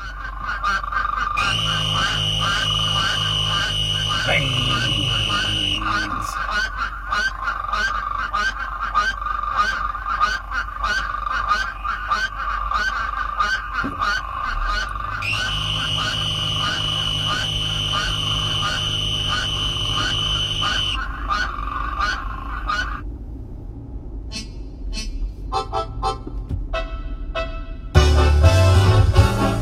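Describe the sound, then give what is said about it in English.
A chorus of plains spadefoot and western spadefoot toads gives long, nasal, droning calls that rise and fade in waves, while a little green toad's rapid, buzzy trill pulses steadily in the foreground. “The plain spade foot and the western spade foot, yeah, well, spade calling foot along with a little green toad in the foreground.”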